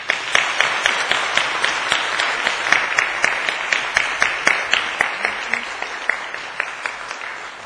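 An audience applauds steadily for several seconds, many hands clapping together with a dense, even rhythm and a few sharper claps standing out, welcoming a preacher to the pulpit before a sermon.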